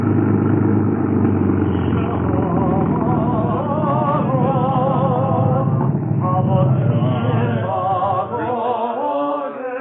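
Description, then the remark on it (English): A truck engine rumbles steadily for several seconds, a low continuous drone that winds down and cuts out near the end. “We always leave the truck here, Jonas, and walk the rest of the way.”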